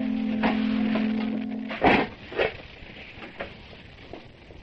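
household object, front door opening

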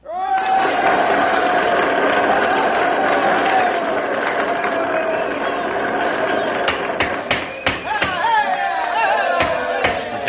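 crowd, students cheering

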